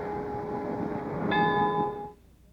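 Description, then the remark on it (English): Bells of the Protestant church next door to the house where Albert Schweitzer was born chime with a ringing, sustained tone. A fresh strike lands partway through and adds brighter overtones, then the peal fades quickly over a low background rumble. “Those are, for those of you recording, the chimes of the Protestant church located next door to the house where Albert Schweitzer was born.”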